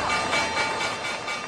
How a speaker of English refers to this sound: The opening bell on Wall Street, and at the end of each trading session, we get a numerical measure of stock performance for the day.